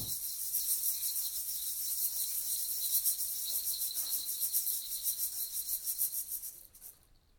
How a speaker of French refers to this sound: La cigale.